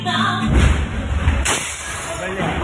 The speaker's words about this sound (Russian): Ой. Удар. Уф, это вот падают ракеты. Они в зале все это.